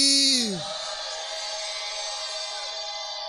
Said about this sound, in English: And the believer shouts. Is that your best shout? Let me hear the believer shout of glory.